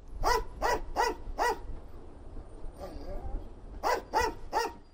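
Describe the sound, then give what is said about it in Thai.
Asha, a female English Springer Spaniel sniffer dog at Jomo Kenyatta International Airport in Kenya who sniffs passengers' luggage for smuggled ivory, barks sharply four times in quick, even succession, falls quiet while a faint whine rises briefly, then barks three more times, loud. “อาชาคือสุนัขเพศเมียพันธุ์ English Springer Spanielที่ประจำอยู่ที่สนามบินนานาชาติโจโมเคนยัตตาในเคนยานะครับงานของอาชาคือตระเวนดมกลิ่นตามกระเป๋าสัมภาระผู้โดยสารเพื่อหางาช้างเถื่อนที่ถูกลอบนำไปใส่ไว้ในกระเป๋าเหล่านั้น”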